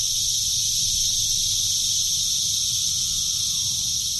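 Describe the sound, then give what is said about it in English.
A loud, unbroken chorus of male cicadas sings mating songs from the treetops to draw females, forming a dense, high-pitched buzzing drone with a low rumble underneath and no voices. “Once on the treetops, the male cicadas will sing their mating songs to draw the females. And it is loud.”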